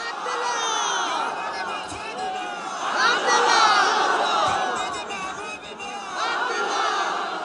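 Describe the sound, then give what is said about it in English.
A large crowd, women in burqas and men in turbans, at a Western-style political rally for candidate Dr. Abdullah Abdullah in a stadium under the blistering midday sun, cheers and shouts continuously, a dense roar of many voices with rising whoops and swells that peak midway, then surge again. “It's a new experience, a Western-style political rally.”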